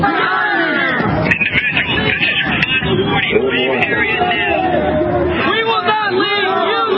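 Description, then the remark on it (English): Angry protesters in a staged scenario soldiers might encounter in Iraq shout and clamor continuously while advancing on American troops, many overlapping voices forming a loud, dense roar with individual yells rising out of the din throughout. “Angry protesters advancing on American troops who have to choose between backing down or opening fire.”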